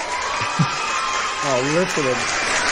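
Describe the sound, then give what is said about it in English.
Steady audience applause fills the whole clip as a dense, even wash of clapping, with a brief voice rising over it near the middle. “I think you got the bigger applause”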